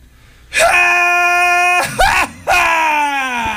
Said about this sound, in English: If you could sum up your time on the West Coast in one particular scream, what would that scream be?